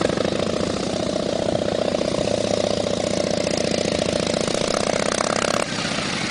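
Two big Harley-Davidson motorcycles rush up to an intersection, their engines rumbling with a deep, loping throb, holding loud and steady for several seconds before easing off slightly near the end. No one speaks.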